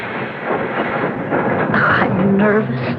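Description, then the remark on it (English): A train rumbles in, its heavy rolling noise filling the scene before high metallic brake squeals ring out as it slows, as if pulling into a station. “Wonder why she came by train instead of driving.”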